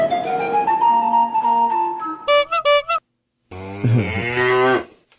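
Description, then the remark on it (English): A cow moos loudly, with a long drawn-out low call, then after a short pause a second bellowing moo that rises and fades, with some tinkly chimes between. “Hence the cow.”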